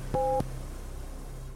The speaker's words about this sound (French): Restez à l'écoute, l'épisode commencera après le bip!